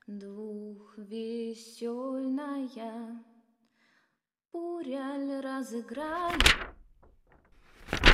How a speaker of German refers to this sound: Als die Dämmerung hereinbrach, knarrte plötzlich die Tür